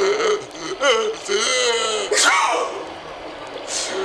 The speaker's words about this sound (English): Wow, that was some sneeze. Wonder where it came from. It must be that walrus over there. I don't see anybody else around.